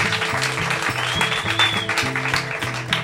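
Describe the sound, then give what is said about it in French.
An audience applauds with dense, steady clapping that lasts the whole three seconds, at the public recording of the show Monsieur est scientifique, made by the 3e C class. A rhythmic musical bass line plays underneath. There is no talking. “Un applaudissement du public, s'il vous plaît.”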